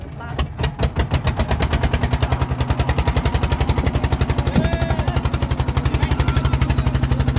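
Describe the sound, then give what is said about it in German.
A motorboat engine putters steadily on the Brahmaputra river in northwest Bangladesh, carrying passengers from the riverbank to a sand island, a fast, even chugging rhythm that holds throughout with hardly any change in pace or loudness. “Weniger als 10 Minuten dauert die Fahrt mit dem Motorboot vom Ufer des Brahmaputras bis zur nächsten Sandinsel.”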